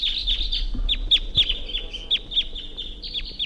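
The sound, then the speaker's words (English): A wild bird (bird 348) up in a tree calls in a quick, steady series of high, sharp chirps, about a dozen notes over a few seconds, before taking off, with a faint low rumble underneath and no talking. “Wild bird took off.”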